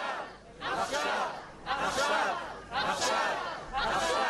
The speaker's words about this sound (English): The speaker says, so return them home, not next week and not next month and not next year, return them home now, with the crowd responding, now, now, now.